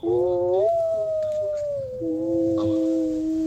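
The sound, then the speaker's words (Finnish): A human voice imitates a humpback whale call with long, sustained moaning tones that rise, hold, then slowly dip and swell again, loud with no talking. “Tässä näin ryhävalas … vielä.”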